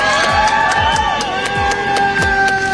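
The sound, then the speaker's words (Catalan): A crowd applauds and cheers Julian Assange on his arrival, free, in Australia: steady, loud and continuous, with sharp scattered claps and overlapping high voices shouting and whooping throughout. “Aplaudeixen Julian Assange, que hi ha arribat lliure.”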